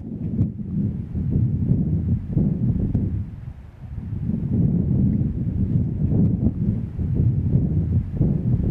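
Strong wind roars and buffets steadily on a Baltic Sea beach, a dense low rumble with gusty swells and a brief lull around the third second; no voices, just continuous blustery noise.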